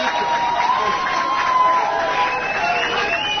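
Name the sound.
fans applauding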